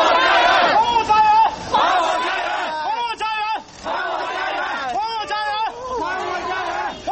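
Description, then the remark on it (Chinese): A crowd of homeless residents of Tianjin, China, left without homes by the Tianjin port chemical warehouse explosion, shouting together at an emotional protest demanding the government buy back their homes; loud, overlapping bursts, voices rising and falling in strained, emotional cries with brief pauses between surges. “星期一，上百名无家可归的居民举行情绪激动的抗议，要求政府回购他们的住房。”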